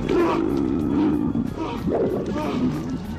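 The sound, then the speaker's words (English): Loud, sustained screaming from the Japanese horror film Ju-on, a raw, strained voice wailing continuously for about three seconds with rough, roaring textures and wavering pitch, no words spoken. “That's Japanese screaming there that you maybe recognize from Godzilla movies.”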